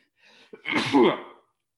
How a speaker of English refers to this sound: Pause. Needed to sneeze. Sorry about that.